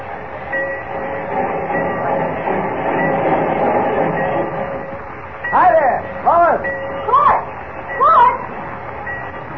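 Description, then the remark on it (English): Busy Central Railroad Station with trains: a dense, steady rumble and hum of rail traffic and crowd noise, with several short, wavering voice-like calls rising above it near the end. “Mr. White told me to meet you down here at the Central Railroad Station.”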